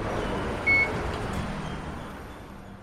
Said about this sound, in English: I make my way out of the station, toward the street. The electronic gates beep goodbye.